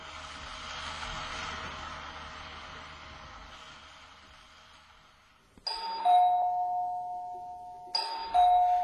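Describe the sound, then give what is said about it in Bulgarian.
A doorbell chimes twice in a ding-dong pattern, each press sharp and clear with bright tonal rings, following a stretch of low, diffuse background noise that fades before the first chime. “Някой звъни.”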